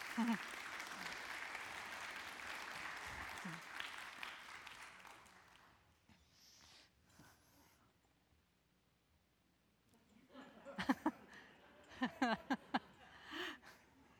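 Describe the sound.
An audience claps in a dense, steady wash of applause for about six seconds, then it fades into near quiet before a few voices and brief noises come in.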